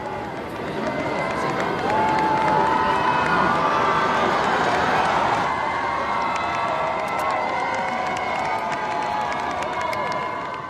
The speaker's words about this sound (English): Cheering, flag-waving crowds jostled around the Pope Mobile at the end of the Mass.